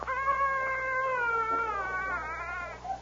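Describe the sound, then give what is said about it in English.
A small stray cat, found in a bundle on a front porch, gives one long, drawn-out cry, thin and wavering, its pitch sliding slowly downward for about three seconds before trailing off. No one speaks. “He heard a tiny cry.”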